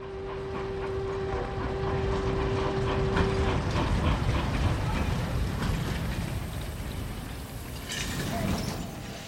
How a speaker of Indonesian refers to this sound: Kereta Inhwa tiba di Daejeon lewat tengah malam.